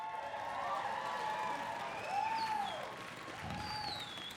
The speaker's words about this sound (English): Now listen, I'm well aware that the only people that just clap for that are the assholes. And you know who you are.